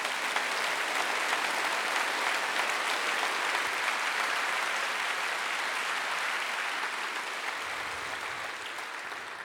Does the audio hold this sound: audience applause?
yes